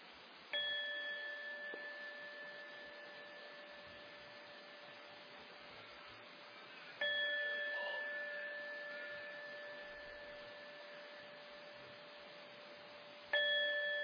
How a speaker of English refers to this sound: I will now ring the gong 3 times.